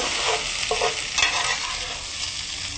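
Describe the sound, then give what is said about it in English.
Steady, hissing sizzle of food frying in a pan, broken by a few scraping strokes as it is stirred. The crackle stays fairly loud and even throughout, with no voices. “Do you want me to stir it while you add in the seasoning?”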